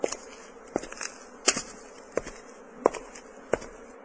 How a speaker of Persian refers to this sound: اگر من از دست داد روم، خداوند مصریان را از پشه و مگس خلاص می کند.